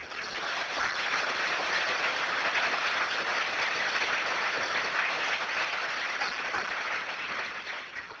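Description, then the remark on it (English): Sustained conference audience applause thanking the conference's supporters, a dense, even wash of clapping that swells in within the first second, holds steady and loud for several seconds, then begins to thin slightly at the end. No one speaks over it. “It means that this conference is very well respected, and I think we really should give them a big, big round of applause.”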